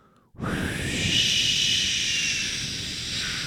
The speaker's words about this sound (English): It's just white noise. It's background. It's like background noise, your background noise.